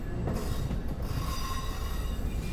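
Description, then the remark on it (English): Metal train wheels rumble and clatter steadily along the rails in Wilmington, North Carolina, a dense, continuous rolling noise with faint high-pitched squealing tones on top. No one speaks. “All throughout the north side of downtown Wilmington, there are little markers of the past, a past filled with the sound of metal wheels clattering down the tracks.”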